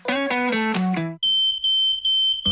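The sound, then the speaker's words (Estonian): A few descending musical tones give way to a loud, shrill smoke detector alarm sounding in three piercing, closely spaced beeps, then a short burst of another sound at the end. “Õnnetus ei hüüa tulles, küll aga annab see endast märku piiksudes.”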